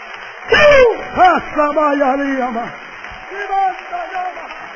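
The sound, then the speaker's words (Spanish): A church audience applauds for the Lord with a steady wash of clapping, while loud voices shout and call out over it in rising and falling tones. “Si le va a dar un aplauso, dáselo fuerte, que es para el Señor.”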